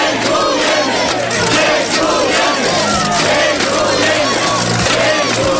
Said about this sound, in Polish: Za dotrzymanie słowa na mecie Majka dostał zasłużoną owację.